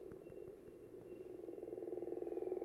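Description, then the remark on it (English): A gopher frog gives a rapid, rattling series of pulses like a woodpecker drumming, building slightly louder over a few seconds, heard clearly with no talking. “This one, remember I mentioned, sounds like a woodpecker.”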